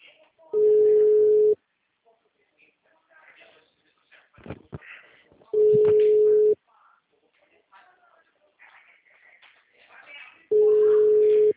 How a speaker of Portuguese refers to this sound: Atende telefone.